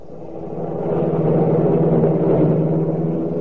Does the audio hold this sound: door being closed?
no